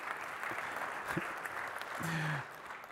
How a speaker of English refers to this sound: Yeah, you can go ahead and clap. Thanks.